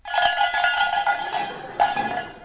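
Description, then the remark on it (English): Faint tinkling bells, far away in the distance in a Russian scene being acted out, ring on and off in a steady jangle, bright and high-pitched, with a fresh cluster of strikes near the end. No one speaks. “Far away in the distance, we hear the tinkle of the bells.”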